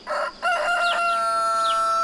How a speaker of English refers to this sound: That was a rooster crowing.